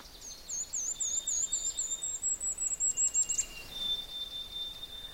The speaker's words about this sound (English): Listening to several sounds, but actually I'm trying to record one in particular, and that's a golden... There, it's saying a golden-crowned kinglet.